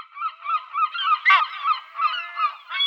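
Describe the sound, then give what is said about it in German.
A flock of birds calling continuously, harsh honking cries overlapping in a steady chorus, one louder burst midway, with no voices. “Es wird heute um diese Vögel gehen.”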